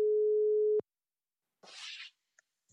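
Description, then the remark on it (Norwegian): A phone-line ringing tone as a call is placed to Egil, the voice of Love Island: a single steady, low electronic tone rings for under a second and stops, followed by silence and then a short burst of hissy crackle and a few faint clicks. “Så vi bare tar og ringer Egil. Vi ringer.”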